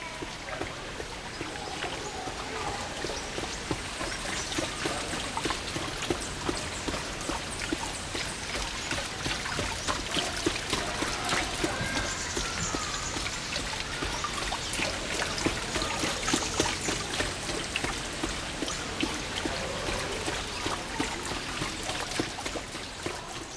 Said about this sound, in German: Das beste Mittel, unerwünschte Klänge zu maskieren, ist seit Jahrtausenden bekannt, der Klang von Wasser.